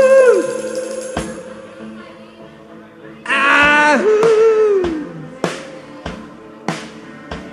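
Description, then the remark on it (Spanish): A loud, drawn-out howl from a human voice rises and then slides downward, set against music with sharp, evenly spaced percussive hits. “Dios escucha los aullidos.”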